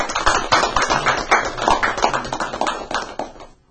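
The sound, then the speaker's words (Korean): A burst of audience applause welcoming a guest pastor at an online addiction recovery meeting broadcast, many hands clapping in a dense, steady patter for a few seconds before quickly fading out. “박수로 목사님 환영합니다.”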